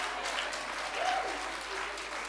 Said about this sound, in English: Yes, if you want to clap for me, clap for me.